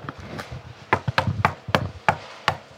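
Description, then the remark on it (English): A series of about eight sharp, loud knocks on the door of a house in Los Angeles, landing in an uneven rhythm with brief pauses between the raps. No voices are heard. “Please knock loudly.”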